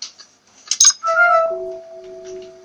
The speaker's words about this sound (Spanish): Ese ruido fue el sonido del candado al romperse.